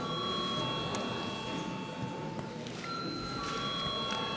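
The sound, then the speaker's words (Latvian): A parliament chamber bell, called for by the chair before a vote on a bill in second reading, rings continuously for the whole stretch, a steady, shrill electric tone with a buzzing edge and no speech over it. “Paldies, lūdzu zvanu.”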